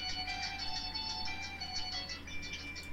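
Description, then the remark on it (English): A phone ringtone for an incoming call plays a steady, tinkling electronic melody throughout, fairly loud, with no one talking over it. “Oh no, now there's a phone call.”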